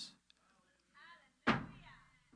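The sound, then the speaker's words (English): A single loud, sharp gavel slam lands, a heavy wooden thud with a short ringing decay, while brief murmurs of a voice sit just before and after it. “The Father slams his gavel.”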